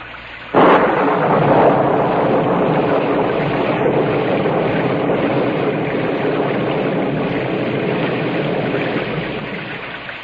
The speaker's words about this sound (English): Gus, can we get level on the rain, please?